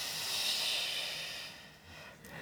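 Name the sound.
inhaling through nose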